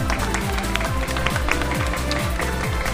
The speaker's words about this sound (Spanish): Hideo Kojima, señores, un aplauso, por favor.